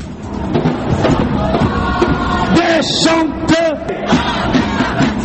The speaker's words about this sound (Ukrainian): Молоді люди в масках кидають у поліцейських каміння. Ті випускають у відповідь сльозогінний газ. Вигуки, звуки розбитого шкла, сирени, арешти, яких за два дні офіційно нарахували вже 1100. Так виглядають цими днями вулиці французьких міст,